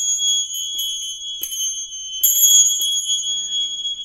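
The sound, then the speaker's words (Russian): Small bells, each sounding a different pitch, ring out with bright, sustained high tones, struck several times in an irregular rhythm, with a louder fresh strike midway; their shimmering overtones linger clear, with no talking. “мне очень хотелось собрать хроматический ряд из колокольчиков”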